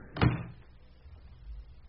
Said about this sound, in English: He closed the door of the washroom sharply behind him.